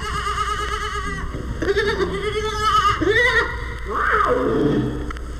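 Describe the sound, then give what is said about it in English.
Several baby domestic goats at a children's zoo bleat in overlapping, wavering cries, a few drawn-out calls rising and falling in pitch, fairly loud over a steady background hum. “These baby domestic goats.”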